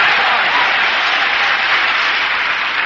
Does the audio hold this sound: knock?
no